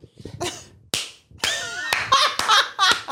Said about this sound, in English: And clownish Kim Jiri stepped into the cave clapping.